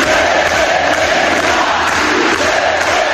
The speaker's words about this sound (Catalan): Tot i això, els simpatitzants de l'esquerra Berzale rebien el seu candidat, ara sí, amb crits d'independència.